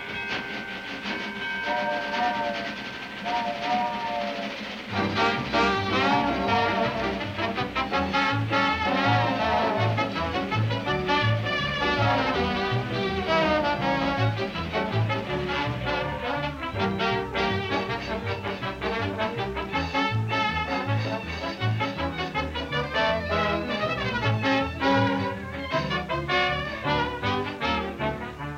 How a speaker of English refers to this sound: As the Club Car Special pulls out of the station